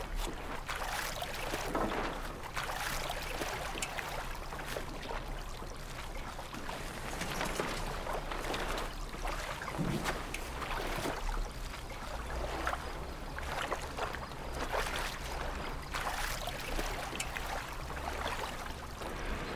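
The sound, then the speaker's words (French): A small sailboat slides off its trailer into the water as it is launched, one crew member handling the trailer while the other handles the boat, with steady splashing and sloshing under a constant wash of wind noise and no one speaking. “Pour la mise à l'eau, un équipier s'occupe de la remorque pendant que l'autre s'occupe du bateau.”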